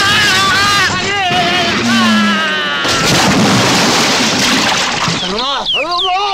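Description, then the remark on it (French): Loud crash of a car carrying a small boat on top flipping over and smashing into a river, a burst of splashing and churning noise, with people yelling and crying out before and after the impact. “Puis ils sont victimes d'un accident quand leur voiture, sur laquelle est posée une petite embarcation, se retourne et atterrit dans une rivière.”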